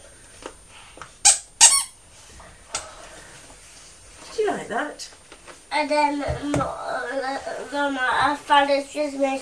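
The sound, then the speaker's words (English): Shrill squeaks from the squeaky sound button of a children's picture book pressed repeatedly: a couple of sharp clicks first, then a run of warbling, high-pitched squeaking that continues loudly to the end. “And if you listen carefully, you just might hear his squeaky song.”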